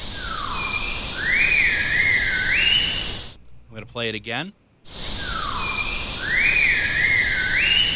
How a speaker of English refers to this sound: And I do believe that these animals do have the ability to whistle. Let's play this.